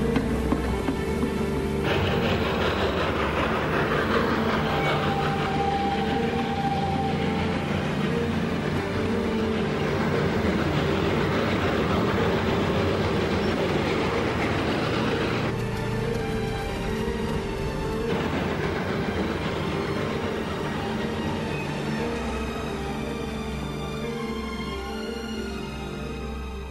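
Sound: train crossing a bridge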